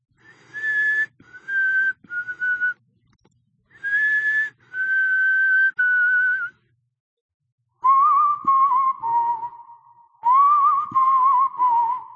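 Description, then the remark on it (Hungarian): Someone whistles a slow melody alone in a silent house, in clear, sustained phrases, starting on higher notes and then dropping lower and wavering, with short pauses between phrases and no talking. “Néma volt a ház, csupán csak egy valaki fütyült. Azt a bizonyos dallamot.”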